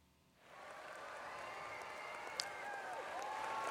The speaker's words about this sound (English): Oh, I hear some cheering. You know what that's about? Well, today is the 2-year anniversary of the Cowboy Tracks Show. Yay!